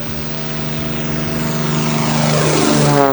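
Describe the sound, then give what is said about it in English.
A mission aviation propeller airplane engine drones loudly and steadily, its pitch rising slightly as it revs up toward the end, with no voices. “NTM aviation pilots spend as much time on their plane as in them.”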